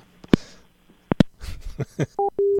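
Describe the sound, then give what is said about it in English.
Several sharp clicks and clattering handling noises, then a quick sequence of steady electronic telephone tones as a call is put through, each a clean sustained beep. No one speaks. “I'll go ahead and put the call through.”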